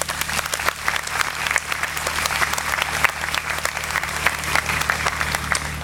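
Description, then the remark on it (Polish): A large audience breaks into sustained, thunderous applause to thank the Przysucha and Zwoleń counties, the town of Opoczno and nearby municipalities for helping host the gathering. Dense overlapping clapping holds steady and loud for several seconds, with a faint low electrical hum underneath. “Gromkie brawa!”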